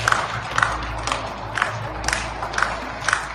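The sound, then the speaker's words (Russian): In Frankfurt, Germany, many residents clap from their balconies at 9 pm for doctors fighting the coronavirus, a steady scattered applause with louder bursts of claps pulsing roughly twice a second, plus a faint ringing tone; no one talks. “Теперь каждый вечер в 9 часов жители выходят на балконы и аплодируют врачам, которые борются с коронавирусом.”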